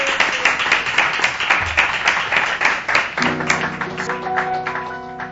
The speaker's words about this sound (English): It's okay to clap. It's okay to talk. I like that. We got cheers and clapping. That's good.